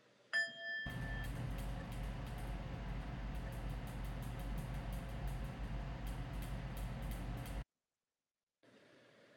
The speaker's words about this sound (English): I'm going to ring this little bell. And when I ring it, just close your eyes and go inside.